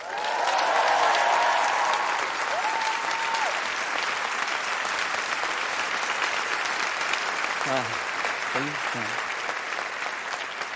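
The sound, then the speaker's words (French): Steady audience applause in Brussels after a song, a dense crackle of many hands clapping, with a few brief whistles or cheers rising above it at the start and again toward the end. “T'as vu, ils ont applaudi.”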